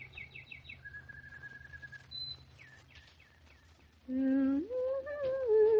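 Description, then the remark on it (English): Birds chirp and sing in quick, high twittering runs and whistled notes over a low background hum, followed near the end by a louder, sustained rising tone. “Hey, can you hear the birds again?”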